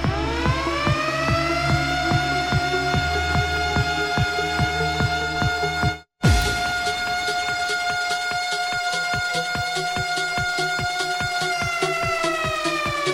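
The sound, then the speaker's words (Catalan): A loud civil defense siren climbs in pitch and then holds a steady, harmonic-rich wail, broken by a brief drop-out midway before sounding again over a steady pulsing beat. No one speaks. “A mi se'm posa la gallina de pell quan t'explico això, i quan sento la sirena no me recordo que és dissabtes.”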